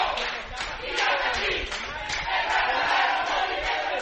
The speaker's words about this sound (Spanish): desde este lunes, estudiantes oficialistas se encontraban en el lugar gritando consignas.